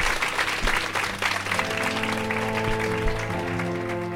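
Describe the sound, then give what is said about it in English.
A crowd claps and cheers in steady, dense applause for the guests at the end of a Let's Talk Transforming End of Life Care Conversations event, and about halfway through, sustained music fades in beneath the clapping, which continues to the end. “Please give a round of applause for your amazing guests.”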